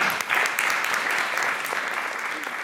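Sustained applause from a crowd, a dense steady wash of many hands clapping at an even loudness throughout, with no voices standing out.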